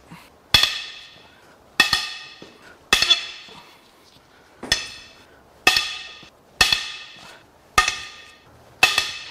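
Eight sharp, ringing metallic strikes land at a steady pace about a second apart, loud, as tight engine head bolts are hammered loose. No one speaks.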